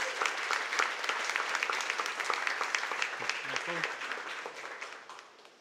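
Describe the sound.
A crowd applauds steadily, a dense wash of many hands clapping at a fairly loud level that holds for several seconds, then gradually tapers off, with a few faint voices mixed in.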